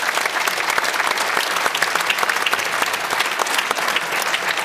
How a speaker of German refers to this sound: Er wird sich nicht drum scheren, aber wir schicken ihm einen Applaus, oder?